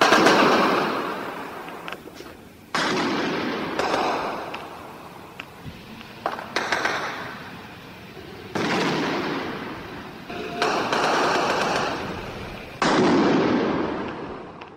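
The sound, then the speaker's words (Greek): Loud bursts of automatic gunfire from security forces firing on unarmed protesters during the Polytechnic uprising erupt every few seconds, each sharp volley trailing into a rumbling echo. There are about six bursts in all and no voices. “Κραυγές αγωνίας, πυροβολισμοί και ύστερα μια σιωπή απόλυτη.”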